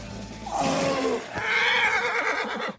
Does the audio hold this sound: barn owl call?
no